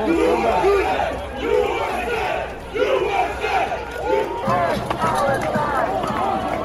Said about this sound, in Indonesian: Teriakan USA, USA dan bebaskan Palestina terdengar sementara botol dan kadang-kadang potongan kayu dilemparkan.